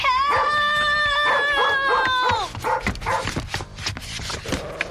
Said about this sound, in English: Help! Let go of my sock! Stop it! Let go, you dumb dog! Let go!